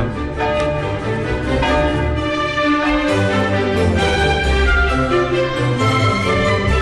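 Church bells ring loudly and continuously, their rich overlapping tones pealing together with repeated strikes and long shimmering sustain, with no voices.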